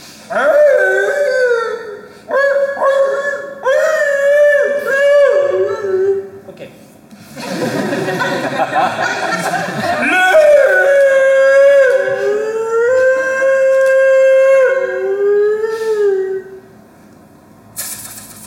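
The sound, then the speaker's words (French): A person imitates a wolf howl as a short practice attempt: several sustained, wavering vocal howls that rise and fall in pitch, broken by a breathy, hissing gust, then one long drawn-out howl that slides downward and fades. “Je fais juste un petit essai parce que pour le loup j'ai du mal au début.”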